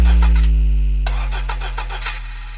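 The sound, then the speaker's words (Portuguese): A car engine being cranked to start, with quick rhythmic bursts over a steady low rumble, loud, and no voices. “Que meu carro só liga se você fazer chupeta.”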